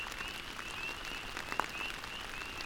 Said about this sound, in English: I feel so incredibly grateful to hear my first spring peepers of the year, their bird-like chirps adding some sparkle to the soothing sound of the rain.